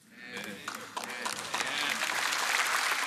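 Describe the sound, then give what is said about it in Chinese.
Audience applause swells from a soft start into a dense, steady wash of many hands clapping, growing louder toward the end, with a few voices faintly mixed in. “你不要鼓掌，占用了我时间。”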